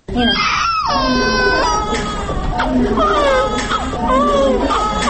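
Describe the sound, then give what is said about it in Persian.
Two newborn twin baby boys, each weighing over 2 kg, born from Tajikistan's first artificial pregnancy at maternity hospital No. 1 in the capital, cry loudly in a steady stream of high, wavering wails with short breaths between them, the cries overlapping and rising and falling in pitch. “با دیدن طفلان نوزاد رفت که مادرشان پس از 12 سال انتظاری در نهایت روی فرزند را دیده است”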